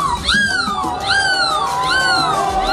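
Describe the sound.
A person loudly imitates a seagull's cry at the world seagull-cry championship: three drawn-out, shrill, nasal calls, each rising sharply then sliding down, repeated in a steady rhythm over a low background murmur.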